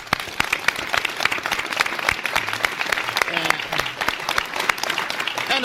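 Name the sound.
studio audience applause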